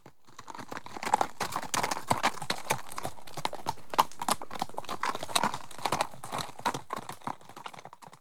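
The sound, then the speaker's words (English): Steady clip-clop of ridden white horses' hooves on a hard surface, a dense, rhythmic stream of sharp knocks lasting throughout, even in loudness, with no one talking. “They rode on white horses.”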